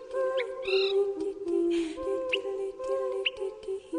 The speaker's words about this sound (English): I've actually stood outside and looked up a lot of times on those quiet evenings. You can hear chirping birds, little call notes when they're going by communicating, and there's obviously just masses of birds going by.